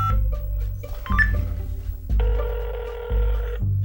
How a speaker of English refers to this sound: And then, for Bradley and Jennifer's benefit, well, I suppose mostly for his own benefit, Dante picked up the phone and started dialing.